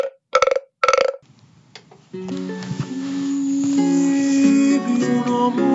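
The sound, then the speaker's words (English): Three short, raspy frog croaks in quick succession, each a loud buzzy burst, followed by a brief pause before a sung melody with instrumental accompaniment begins. “And it'll begin right after the sound of my frog croaking three times.”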